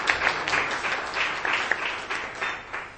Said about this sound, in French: Laissez-nous faire applaudir pour notre formateur